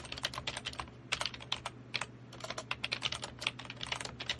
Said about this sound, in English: I just typed water. Okay.